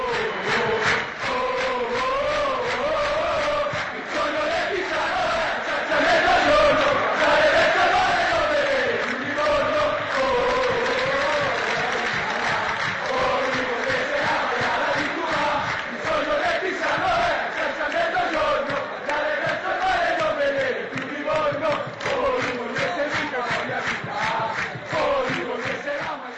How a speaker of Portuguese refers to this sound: a gente vai ouvir a resposta da torcida do Pisa, que me desculpem os torcedores do Livorno, mas vamos dar um pouquinho de voz aqui para o pessoal de Pisa. Vamos lá.